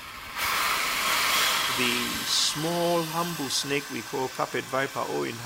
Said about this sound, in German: hat mit beteiligten Forschern gesprochen und den Klang einer Sandrasselotter für uns eingefangen.